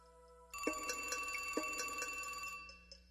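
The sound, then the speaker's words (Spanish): A telephone bell rings for an incoming call in one sustained, rapidly rattling burst, loud, then cuts off and leaves a brief fading ring. There is no talking. “Luego, de forma inesperada, recibió una llamada.”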